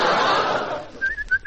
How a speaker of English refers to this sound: Whistling too, huh?